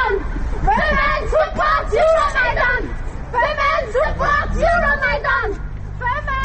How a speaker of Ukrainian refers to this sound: Отже, ми почули наприкінці включення із Брюсселя запис вигуків українських представниць групи «Фемен».